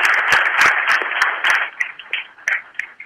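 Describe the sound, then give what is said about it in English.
An audience applauds Mason County's elected leaders, a dense wash of many hands clapping at once that thins after a second or so into scattered, individual claps before dying away. No one speaks. “So let's give our elected leaders a round of applause.”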